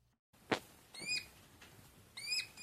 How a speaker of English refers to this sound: That's the wrong button. That's hedgehog mating. Press the wrong button there. Charming. Sounds like a guinea pig.